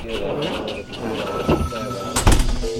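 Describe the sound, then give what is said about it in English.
Elevator doors slide open on arrival at the first floor over a steady mechanical rumble, ending in a louder clunk and rush of motion near the end, with a faint voice murmuring in the background. “First floor. Doors open.”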